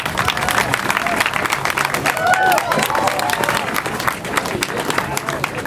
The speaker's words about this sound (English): A huge round of applause for our speakers.